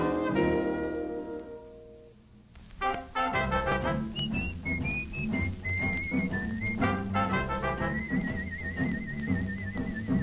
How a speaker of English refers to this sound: If you're whistling cause you're happy, be very careful, Pappy. No telling just what a whistler's mother-in-law will do.